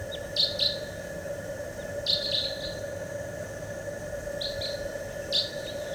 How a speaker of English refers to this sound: Wild bird.